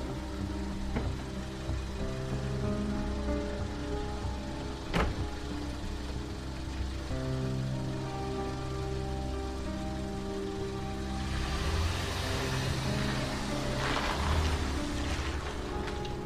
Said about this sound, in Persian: حامد با ماشین رسید کنار خونش. تینا پیاده میشه. حامد میره تو پارکینگ.